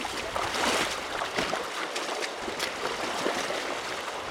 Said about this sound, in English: crosses the creek.